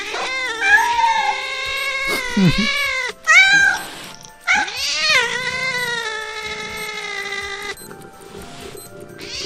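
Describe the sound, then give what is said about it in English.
An angry cat yowls in long, wavering, high-pitched cries, broken by a couple of short, harsh hissing bursts. The sounds are loud and continuous, with no talking. “Wow, you can hear it hissing.”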